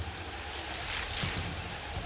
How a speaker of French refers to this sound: C'est un bruit de vent. C'est l'orage. On dirait des coups de tambour. Fort. Ça ronfle. C'est l'orage. Il y a des coups de tonnerre derrière.